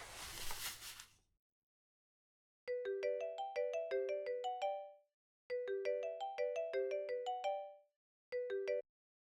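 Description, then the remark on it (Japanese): A brief rustling burst, then a bright melodic phone ringing tone plays in three repeating bursts with short pauses between as a phone call is placed to a friend; clear, with no voices. “電話しとこ。”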